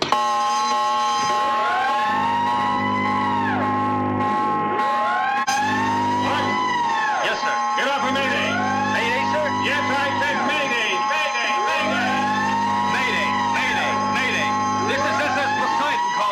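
A ship's alarm sounds loudly and continuously: a siren wails up and down in repeated sweeps, layered over long, low, droning horn blasts that come in several separate bursts.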